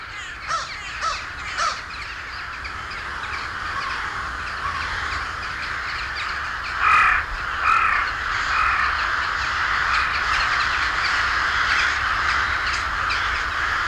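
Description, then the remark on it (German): Ravens caw in short, harsh bursts, a few close together early on and another cluster midway, over a steady hissing outdoor background with no one speaking. “Ruhe, es ist die Zeit der Raben.”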